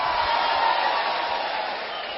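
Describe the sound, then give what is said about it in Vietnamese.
A dense, steady wash of applause from a crowd, sustained clapping filling the space at a fairly loud level and easing slightly toward the end, with no voices. “Xin quý vị dành cho tràng pháo tay để chúc mừng toàn thể quý vị.”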